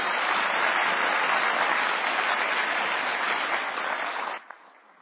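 Audience applause, a steady dense patter of many hands clapping at an even loudness, then fading abruptly near the end to a quieter tail.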